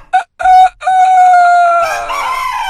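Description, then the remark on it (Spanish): A person's voice mimics a rooster crowing: a couple of short clipped notes, then a long, loud, sustained cry that wavers and breaks at the end, heard alone. “Y yo recuerdo que yo bajo el mosquitero, tempranito en la mañana, te estoy hablando, 5 de la mañana, oías el gallo que hacía así.”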